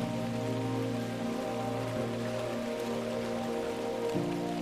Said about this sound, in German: Der typische Schnürregen, auch bekannt als Salzburger Schnürlregen, lässt die Umgebung in ein Nebelfeld tauchen. Regentropfen fallen wie an Schnüren gezogen vom Himmel.